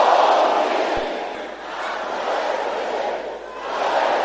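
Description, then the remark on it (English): An audience at a prayer service shouts a prayer together in a loud, sustained roar of many voices that swells, dips briefly, then rises again across a few seconds, with no single voice standing out. “Can I hear you shouting that?”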